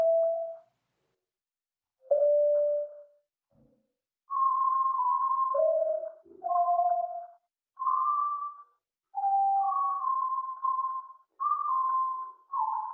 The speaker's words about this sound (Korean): 얼핏 들으면 고음의 피아노 소리나 새소리 같기도 한 이 고음역의 음향은 한국 국방부가 대북 심리전에 사용하는 자유의 소리 방송에서 발췌한 것인데 본래 국방부가 송출하는 방송과는 전혀 다릅니다.